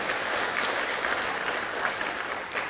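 An audience at a conference claps steadily, a dense, continuous patter of applause holding at an even level for a few seconds without any voices standing out.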